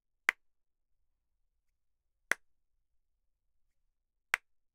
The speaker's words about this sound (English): 3 claps.